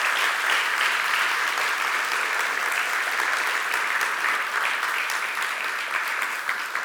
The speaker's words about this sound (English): So just let's give a round of applause.